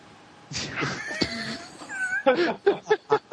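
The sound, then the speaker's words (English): A cat lets out a drawn-out, wavering yowl, then a quick run of five short, rhythmic meows, loud and clear with no talking. “Am I supposed to bring my cat to the microphone?”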